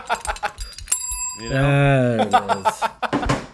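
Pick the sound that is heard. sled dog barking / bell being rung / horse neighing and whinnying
bell being rung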